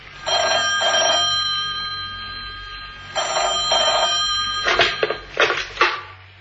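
A telephone rings twice with a bright, trilling bell in short double bursts, followed by a few clattering knocks, like the handset being lifted. No one speaks.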